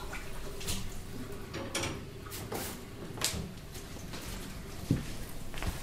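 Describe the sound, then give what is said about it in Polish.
Water runs steadily from a tap into a glass, a continuous splashing hiss with a few light clinks and knocks of glass or dishes mixed in, with no voices. “Przyniosę ci szklankę wody.”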